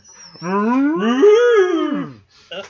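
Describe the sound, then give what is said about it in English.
A person imitates a cow with a long, drawn-out moo that rises and falls in pitch, loud, lasting about two seconds before a brief breathy sound at the end. “Stomp your foot on the ground and make cow noises.”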